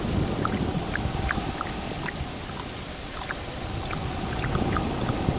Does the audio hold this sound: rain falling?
yes